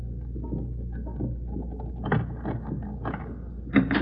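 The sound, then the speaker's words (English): A shower runs behind a closed bathroom door: a muffled, steady rush of running water with a low constant rumble and a few brief splashy surges. “No wonder she didn't hear the phone. She's in the shower.”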